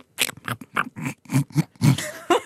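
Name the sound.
imitated wild boar grunting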